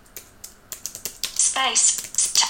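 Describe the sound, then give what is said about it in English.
Quick, irregular clicks of typing "hello world, this is me" into a new note on a computer keyboard, sharp and fairly crisp, run for a second or so before a brief voice and a hissy, breathy sound take over. “Okay, I just typed in, hello world, this is me.”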